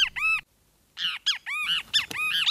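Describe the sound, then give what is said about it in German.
A social flycatcher, a small yellow-bellied bird with black stripes around its eyes, sings in the daytime in a run of loud, harsh, squeaky notes, each arching high with bright harmonics, in two bursts separated by a short silence, clear with no talking. “So klingt es, wenn der Schwefelmaskentyrann tagsüber sein Lied trällert.”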